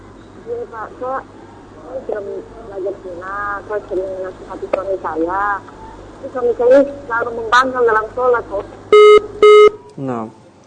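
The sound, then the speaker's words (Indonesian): A voice talks over a thin phone line during a call from a woman in Papua, then the call cuts off with two short, loud electronic tone bursts near the end, followed by a brief trailing sound. “So, terputus dari hubungan saluran telepon.”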